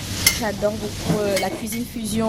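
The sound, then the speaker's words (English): Pieces of chicken marinated with garlic, vinegar and soya sauce sizzle steadily as they are seared on a hot stove in the kitchen of La Traversée restaurant in Paris, with a bright scrape or clink of a utensil now and then and a murmuring, tonal voice-like sound underneath. “He takes pieces of marinated chicken and sears them on a hot stove.”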